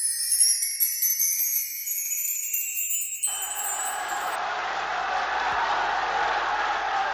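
Prisoners behind the bars of a Roman prison cheering at Christmas 1958, drowning out the voice of Pope John XXIII speaking to them, in a loud, steady roar of many voices that swells in after a few seconds of high, thin ringing tones and keeps going without a break.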